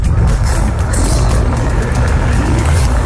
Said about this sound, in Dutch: Wat hoorde ik? Ik heb daar echt alleen maar geruis van de auto gehoord.